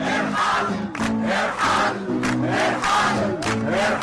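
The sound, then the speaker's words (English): A large crowd of protesters in Tahrir Square, Egypt, chants slogans in unison, loud and continuous, its voices rising and falling in steady rhythmic phrases about once a second, with a sung, melodic quality. “This became the song of the protesters in Tahrir Square.”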